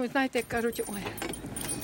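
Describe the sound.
A bunch of keys jangles and clinks in a steady, scrabbling metallic rattle as a woman searches for the cellar key and fumbles for the lock, just after a short burst of a woman's voice at the start.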